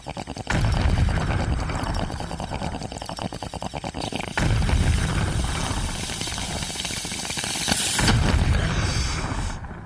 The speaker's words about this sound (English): one or more of the explosions Ted uses for TV time